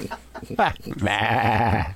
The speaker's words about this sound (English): Wish well, there was a deer sound effect. They may be, I think it's a sheep.